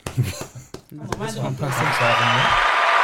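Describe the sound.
A man speaks briefly, then a dense wash of crowd applause swells in over his voice and continues steadily and loudly to the end, like a canned clapping effect.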